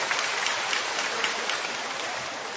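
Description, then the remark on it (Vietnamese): A steady, dense patter of many hands clapping together, a sustained round of applause to welcome some brothers and sisters, holding at an even level throughout with no voices over it. “Một tràng pháo tay để chúng ta đón chào những anh chị em ấy.”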